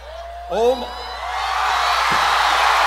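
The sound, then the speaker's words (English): As a small bird flies up onto the podium, a single whooping shout sets off a large crowd, whose cheering swells into a loud, sustained roar that keeps building to the end. “Oh, and now the bird flew up on the podium, Joey, and the crowd goes insane.”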